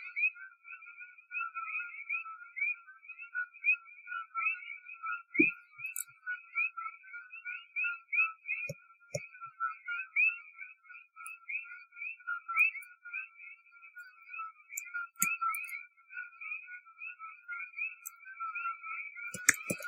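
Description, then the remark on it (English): A steady chorus of frogs calling, with dense pulsing trills layered in two bands and continuing without pause, plus a few faint clicks and knocks scattered in the background. “and it happens to be right in the frequency range that these frogs make.”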